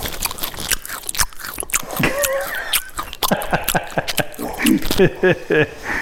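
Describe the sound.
Crunchy chewing and biting, a rapid series of sharp, wet crunches, with bits of muffled voice mixed in around them.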